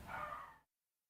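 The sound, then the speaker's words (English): A single short, excited bark from a female pet dog rings out, somewhat faint, then cuts off into silence with no voices around it. “My dog losing her mind.”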